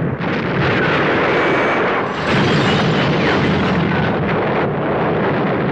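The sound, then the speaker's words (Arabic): A car overturns and rolls over again and again in an area near Halban, producing a loud, continuous roar of crunching, rumbling impacts with a brief dip partway through before the tumbling clatter surges again. No voices are heard. “وفجأة حصل ما لم يكن في الحسبان، في منطقة قريبة من حلبان تنقلب السيارة وتتزحرج مرة تلو أخرى.”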